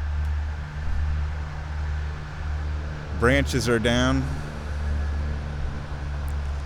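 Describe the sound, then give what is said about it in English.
A steady roar of highway traffic zipping by on the I-680 loop hums low and constant throughout, heard while walking up a deer path, with a short spoken phrase rising briefly over it midway. “On the I-680 loop. You can probably hear the traffic.”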